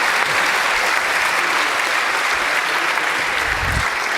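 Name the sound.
audience applause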